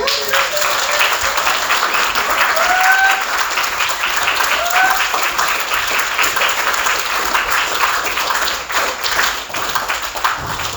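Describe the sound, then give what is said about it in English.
Sustained applause from an audience for a speaker who has just spoken, a dense, steady wash of many hands clapping at full volume for about eleven seconds, with a few faint cheers or whistles rising above it. “Let's give Luke another round of applause.”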